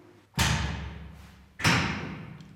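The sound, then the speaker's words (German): A heavy metal cell door, the outer door of a cell, slams shut with a loud, booming impact, then a second hard clang follows about a second later, each ringing out in a reverberant space; the door is double-locked. No voices. “Oh, und jetzt geht die Tür da draußen auch noch zu.”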